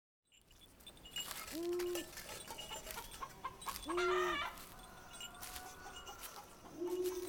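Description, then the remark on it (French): A plucked chicken clucks shrilly in short, drawn-out calls that repeat every few seconds, over a busy scratchy background of farmyard rustling and clicks. “Le caquettement strident d'un poulet déplumé résonne à ses pieds.”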